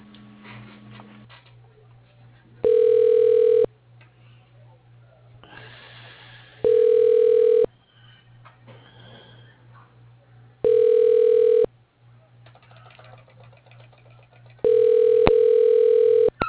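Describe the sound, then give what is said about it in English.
A telephone line rings four times as a call is put through to another person's line, each steady, mid-pitched tone lasting about a second with roughly three-second pauses between, over a faint constant hum and light line noise. “I'll put you through.”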